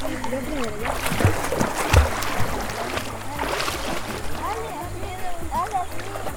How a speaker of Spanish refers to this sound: Primero se mueven las manos y luego y los pies. Y como te vas hundiendo al agua y así vas nadando. Escucha cómo voy a nadar.